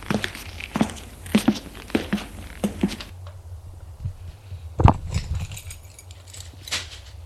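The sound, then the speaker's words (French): Keys jangle while someone rummages through a bag to find them at the door of a fifth-floor home in an old house: a run of sharp, bright metallic clinks in the first few seconds, then quieter rustling with a single louder knock. “Je ne sais plus où j'ai mis mes clés.”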